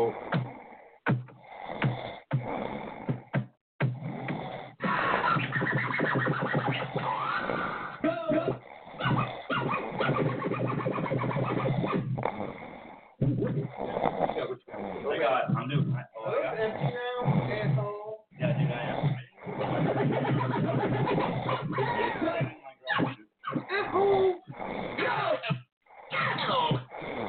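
person snoring

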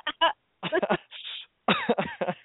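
cough

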